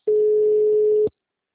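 signal or alarm, telephone ringing

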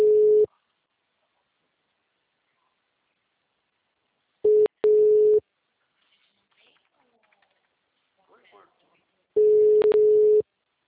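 signal or alarm, telephone line tone

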